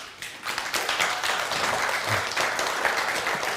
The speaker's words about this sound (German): Also wenn hier jemand wirklich umweltfreundlich war, dann waren das auf jeden Fall unsere Waffel und unsere Küche. Applaus dafür.